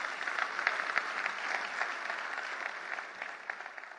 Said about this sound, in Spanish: Si Dios se habló, dé un aplauso al Señor, que Él se lo merece.